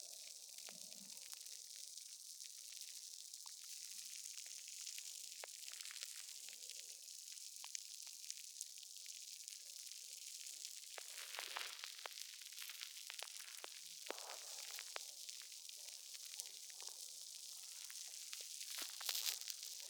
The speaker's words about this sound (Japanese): にしても、この石鹸、泡立ちいいな。あっという間にご主人様の耳に泡だらけ。そりゃ気持ちいいですよね。